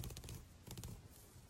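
A zipper is zipped up in two short, quiet rasping pulls separated by a brief pause, with no talking.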